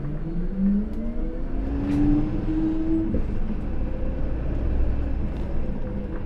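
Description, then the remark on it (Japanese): Inside a moving bus: a steady low rumble with an engine whine that climbs in pitch as the vehicle accelerates, plus faint rattles, and no voices. “今日バスにご乗車くださいましてありがとうございます。”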